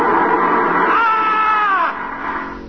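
A man wakes from a nightmare screaming, a loud, drawn-out scream that wavers in pitch, then trails off into a shakier, quieter cry. No speech accompanies it.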